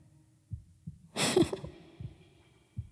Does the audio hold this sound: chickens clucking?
no